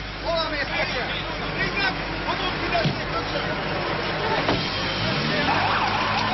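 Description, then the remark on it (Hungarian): An ambulance siren wails through dense street noise and traffic rumble during a street protest, as road barricades are opened for the ambulance. Its tone rises and falls, with a crowd murmuring and voices chattering throughout. “Az úttorlaszokat csak a mentő előtt nyitották meg.”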